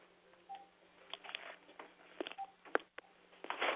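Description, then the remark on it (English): Telephone keypad tones as someone dials to get another phone line, beeping in a quick, uneven sequence of short, mid-pitched electronic blips over a faint steady hum, ending in a burst of hissy line noise. “Hold on. Let me get another line here.”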